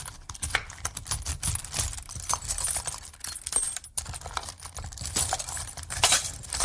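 Metallic clinking and jingling as a large coin bearing Queen Elizabeth, slightly larger than a 5-krone coin, is picked out from among others and handled, with a steady stream of light rattles and taps and no voices.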